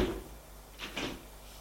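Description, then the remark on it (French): A bedroom door closes with a short double knock of wood and latch, two quick thuds close together against a quiet, faint hum. “Alors, ferma la porte”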